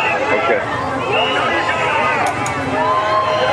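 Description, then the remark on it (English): A crowd of hundreds of supporters cheers and shouts as the president waves, a dense, steady wall of overlapping voices that stays loud for the whole stretch, with a couple of brief sharp bursts partway through. “You're going to hear the cheers.”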